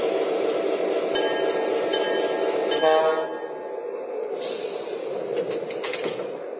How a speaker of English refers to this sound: Now arriving from Minneapolis on track 1, train number 6, the morning Hiawatha.